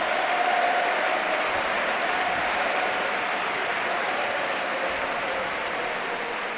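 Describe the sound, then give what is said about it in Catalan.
A stadium crowd at a football match involving Valladolid gives a sustained ovation for Baena, dense applause and cheering roaring steadily throughout at a loud, even level with no individual voices standing out. “Baena torna a la ovació, eterno.”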